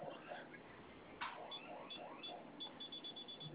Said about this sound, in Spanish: Va a sonar su alarma y vamos a ingresar su clave que acaba de registrar ahorita.